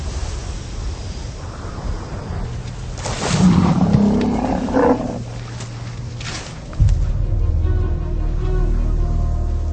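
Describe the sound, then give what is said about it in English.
Elephants roar loudly, with one long rumbling call in the middle, over a steady outdoor wash of wind and shuffling movement, followed by a deep low rumble, as they travel in search of water in the Kalahari Desert of southern Africa during the dry season. No one speaks. “It's the dry season, and thousands of elephants have started to travel in a desperate search for water.”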